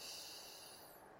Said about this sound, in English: Breathing in through the nose. And breathing out through the mouth. And maybe one more time, breathing in through the nose